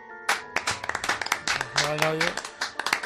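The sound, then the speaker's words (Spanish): A group claps steadily in the Atlético de Madrid dressing room, the dense applause lively, with several voices shouting and talking over it throughout. “Ahora se siguen escuchando aplausos.”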